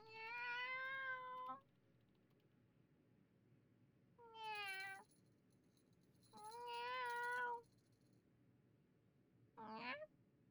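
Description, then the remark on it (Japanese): A two-year-old Turkish Angora cat named Anne meows four times, long drawn-out calls with pauses between them, the last one short and rising, with no talking. “私はアン、ターキッシュアンゴラの2歳です。”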